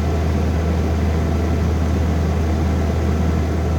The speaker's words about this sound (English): And I captured the sound with my phone of the whirring condenser fan, which I could have easily stuck my finger or toe into while I was back there with the back of the fridge taken off.